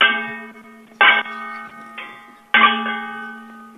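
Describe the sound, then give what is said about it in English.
Two copper pans are banged together like cymbals four times in an uneven rhythm, each hit ringing out with a bright, bell-like tone that lingers; one strike is softer than the others, with no talking. “bang the pans to the beat of the music”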